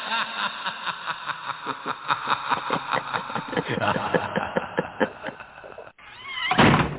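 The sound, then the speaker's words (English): A steady, rhythmic mechanical rumbling and clattering runs for several seconds, then a brief pause before a man slams a door shut in a single loud slam near the end. “He slammed the door right on me.”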